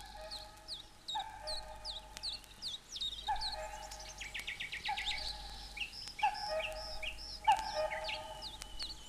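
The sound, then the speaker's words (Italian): A lively chorus of blackbirds chirps and whistles continuously, while the lower, steadier call of cuckoos repeats every second or two beneath the high twittering, with no voices. “Chioccolavano i merli curiosi. E tra gli altri, i cuculi scandivano il loro richiamo musicale.”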